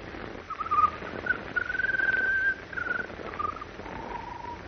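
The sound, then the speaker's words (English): A bird sings an odd, peculiar song of clear whistled notes, some short and chirping, one long and steady, wavering up and down over a faint noisy background with no talking. “When the bird started to sing, her pulse became much stronger.”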